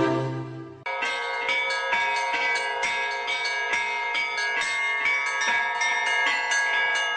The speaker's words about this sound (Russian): Колокольным звоном разливается праздничная весть по одному из старейших русских поселений на Дальнем Востоке. Охотску исполняется 365 лет.